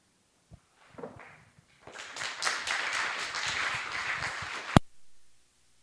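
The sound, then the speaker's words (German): An audience at a talk breaks into applause: a few scattered claps first, then a dense, steady burst of clapping for about three seconds that ends abruptly on a sharp click. “Ja, ich habe schon befürchtet, dass ihr jetzt klatscht.”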